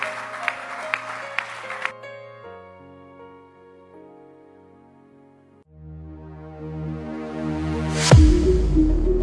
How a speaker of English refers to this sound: Keep clapping your hands. Clap your hands. Clap your hands. Keep clapping your hands.